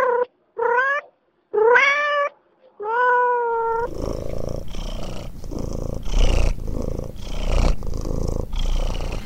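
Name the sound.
cat purring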